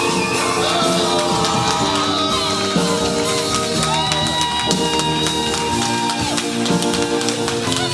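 A church audience applauds and cheers loudly and continuously as a preacher is welcomed on stage for a sermon series, with scattered yells and whoops rising over dense clapping and a steady musical backdrop throughout.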